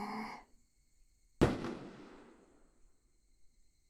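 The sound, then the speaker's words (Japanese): A single large, colorful firework bursts overhead with a sharp, loud boom that rolls off into a long, fading rumble. Just before it, a person lets out a brief, soft breathy sound. “花火職人さんってさ、一年のこのためにどれくらい修行するんだろうね”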